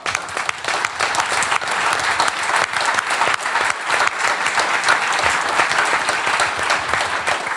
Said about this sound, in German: Das ist, glaube ich, auch ein Applaus wert, ja.